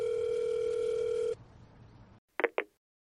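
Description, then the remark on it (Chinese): A steady electronic tone hums for over a second as a mobile phone calls the head of the provincial public security department, then after a short hiss two quick ringing pulses sound close together, like a phone call connecting. No voices. “李斌良想了想，拿出手机拨打了省公安厅厅长林英的电话。”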